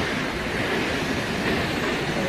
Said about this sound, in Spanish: Son 222 metros de caída en un circo de piedra fabuloso. El sitio en sí ya es espectacular. Pero claro, si ves caer esa cola de caballo, esa cola de agua, pues más todavía. Bueno, es que mira cómo suena.